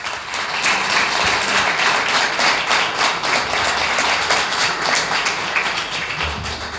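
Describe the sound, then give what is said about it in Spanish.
Sustained audience applause at a political campaign event for a candidate for provincial deputy, a dense steady wash of many hands clapping at an even loudness for several seconds, with no voices over it. “También quiero agradecer y darle un fuerte aplauso a Mario Ferrari, que es candidato a quinto diputado provincial.”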